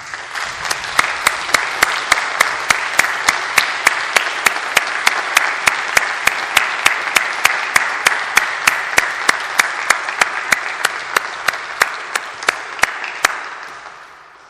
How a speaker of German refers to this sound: An dieser Stelle doch auch nochmal oder schon herzlichen Dank an alle Musikerinnen heute Morgen hier bei uns. Und ich finde ja, sie haben sich einen kräftigen und herzlichen Applaus verdient.